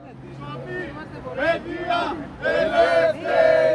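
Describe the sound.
About a dozen Greek students protesting in the rain outside a meeting of Greek and other EU politicians in Berlin chant in loud, rhythmic bursts, each shouted phrase swelling and falling in a steady call-and-response pattern, with a low constant hum underneath.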